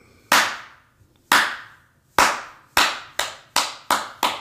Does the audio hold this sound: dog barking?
no